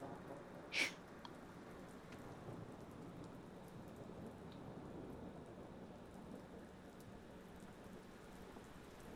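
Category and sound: nature, rain falling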